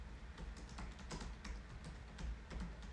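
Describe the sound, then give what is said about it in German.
Quick, uneven typing on a computer keyboard as someone searches something online, with sharp clicky keystrokes, some bursts clustered together, over a low steady hum, with no voices. “Man hört bestimmt jede einzelne Tastatur.”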